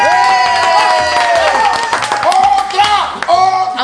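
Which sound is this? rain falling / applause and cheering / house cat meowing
applause and cheering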